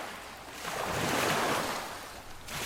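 Soft pond waves wash in a slow swell around a gently rocking boat, rising and then easing back in a steady, hissing rush with no voices present.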